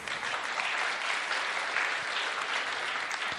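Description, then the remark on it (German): An audience claps steadily throughout, a dense, even wash of many hands with no pauses and no voices over it, holding a constant moderate loudness. “ja, ihr dürft klatschen, ja.”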